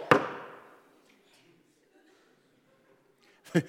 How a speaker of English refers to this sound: That would be a baller move. If you just walked up, one single knock.